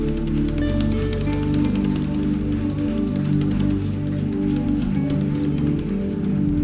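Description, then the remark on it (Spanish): Dense, steady applause from a crowd, given for the glory of Jesus, a continuous crackling wash of many hands clapping over sustained organ-like musical tones that hum underneath throughout. “Es un aplauso para tu gloria, Jesús, gloria y honra.”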